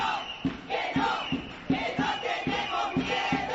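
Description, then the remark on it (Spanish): A street protest crowd of Canarian women chants in unison in the streets of Las Palmas de Gran Canaria on the day for the eradication of violence against women, many voices shouting a steady rhythmic slogan with regular beats about every half second, loud and continuous throughout. “Convocatoria que se realizaba también en Santa Cruz de Tenerife y en todas y cada una de las capitales insulares, las mujeres canarias salían a la calle para manifestarse en la jornada de erradicación de la violencia contra la mujer.”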